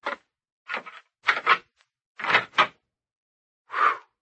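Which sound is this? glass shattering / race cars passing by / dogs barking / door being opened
door being opened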